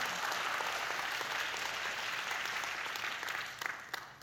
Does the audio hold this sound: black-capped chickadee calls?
no